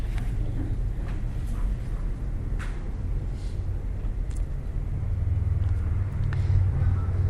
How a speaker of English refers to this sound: And this train coming through right now, I've got to find a way to forgive that train for making all this noise.